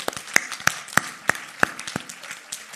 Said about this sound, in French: Il ne faut pas l'oublier, parce que vraiment, on va l'applaudir.